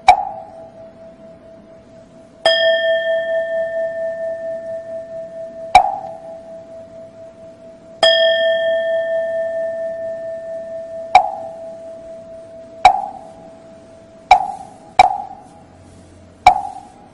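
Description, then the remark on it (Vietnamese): Sharp, hollow wooden-fish knocks struck with a mallet, in sets of three, each answered by a single deep temple bell strike. Each bell tone hums and fades slowly beneath the next knocks, at an unhurried, steady pace with no talking. “Cầm cái dùi như vậy thì khi mình thỉnh á, ha, dứt ba tiếng mõ rồi bên này cũng khoan thai đáp lại một tiếng chuông, rồi để cho tiếng chuông nó khoan thai rồi bên này đáp tiếng mõ.”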